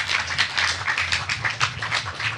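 An audience applauds, many hands clapping in a dense, steady patter that holds at an even level for a couple of seconds, with a faint low hum underneath and no one speaking.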